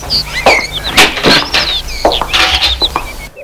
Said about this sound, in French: Ouvre une porte derrière les escaliers.